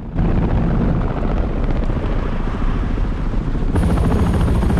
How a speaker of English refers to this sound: Two military choppers appear in the sky above the president's motorcade.